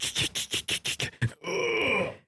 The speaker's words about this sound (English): Oh, look, hear that? Oh, yeah. I know what you mean. That sounds like me fucking getting an erection. This is old creaking wood.